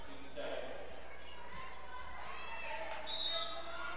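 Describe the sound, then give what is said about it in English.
A few dull thumps of a basketball being dribbled on a hardwood court during an Arrows basketball game, with 30 seconds left. A steady murmur of crowd noise and voices runs underneath, with brief sneaker squeaks near the end. “dribbling around, trying to get it somewhere.”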